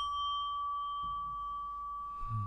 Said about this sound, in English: And then you might bring your practice together with a bow or maybe the sound of a bell.